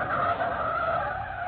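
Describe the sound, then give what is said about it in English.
Mike Axford's car, driving up 3rd Street and slowing for a stoplight, brakes hard to avoid a man in the street, its tires letting out a loud, sustained squealing skid that stays steady for about a second and a half, with no voices. “Meantime, Mike Axford, reporter on the Sentinel, drove his car up 3rd Street and was slowing for a stoplight.”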